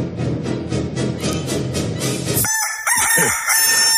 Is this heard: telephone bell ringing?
no